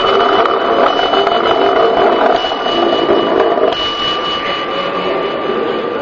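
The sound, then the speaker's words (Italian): Small bells struck by rolling spheres, released one after another, ring together in a loud, continuous metallic clatter with steady high tones, sounding simultaneously, the ringing shifting slightly in character partway through and carrying on to the end. “Ecco, diciamo che come si è sentito i campanelli sono suonati simultaneamente, cioè effettivamente il tempo di percorrenza dei vari spazi è uguale.”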